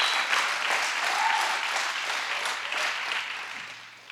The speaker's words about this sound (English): But I have a good woman behind me. Amen. Clap for her for the last time.